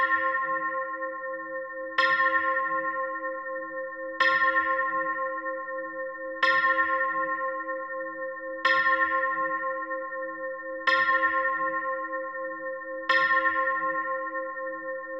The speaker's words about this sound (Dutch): De klokken luiden luid en lang.